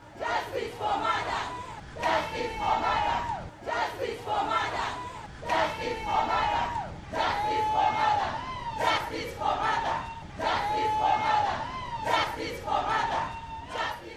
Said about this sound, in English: Those are the voices of sex workers in unison holding peaceful demonstration along Moy Avenue Road.